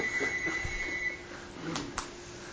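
A phone rings with a steady, high-pitched electronic tone that holds for over a second and then stops, followed by a couple of short clicks against low background noise.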